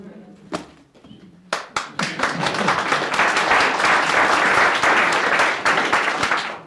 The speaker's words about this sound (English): The applause is also just the happiness of the end of the story.